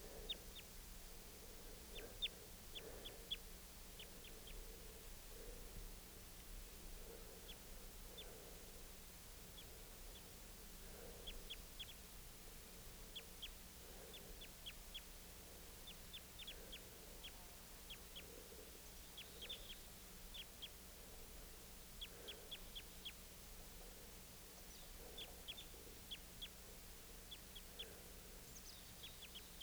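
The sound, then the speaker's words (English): A male and a female bird call back and forth in a steady exchange of short, repeated notes, over a constant low hum of background noise with no talking. “Recording that male again and the female responding.”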